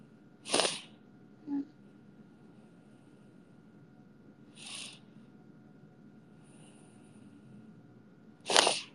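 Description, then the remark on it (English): Repeated sniffling: three sharp nasal sniffs a few seconds apart, with a softer one early on, over a faint steady background hum and no talking. “Sorry, I keep sniffling.”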